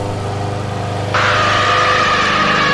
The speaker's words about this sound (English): The lawnmower makes a happy sound as it moves across your goddamn face.